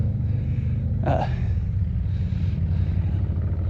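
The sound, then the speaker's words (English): Several motorcycles rumble loudly outside, a deep, steady engine drone that persists throughout, with one brief higher-pitched rev rising out of the mix near the start. “It's like 10 motorcycles at least.”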